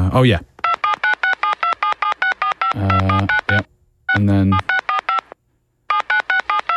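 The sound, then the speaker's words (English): A long run of short, evenly spaced telephone keypad tones beeping in quick succession as a long phone number is dialed, pausing briefly as a voice speaks between bursts of dialing. “I just need to make a quick phone call”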